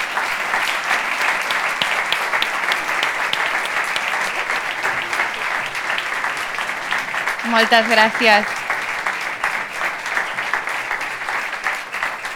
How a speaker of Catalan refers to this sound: Ah, aquest aplaudiment és per tu, Cisco, que ens estàs veient des de Canal Blau.